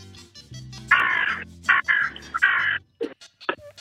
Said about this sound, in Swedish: Den skatar. Falskt. Ja, det var skatandet.